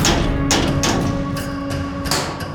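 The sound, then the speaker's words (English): A series of sharp raps on a prison cell door, about six knocks in an uneven rhythm, fairly loud, with a steady low hum underneath and no voices. “But before she could say a word, there was a rapping at their cell door.”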